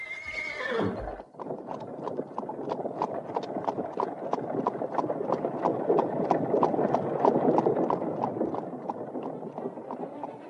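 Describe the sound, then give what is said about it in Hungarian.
A horse whinnies briefly, then the steady clip-clopping hooves of horses pulling a carriage set a brisk, even rhythm over a rumbling rolling noise as the carriage moves along at a trot, fairly loud, while the horses are driven on with the whip. “Csapja a lovak közé!”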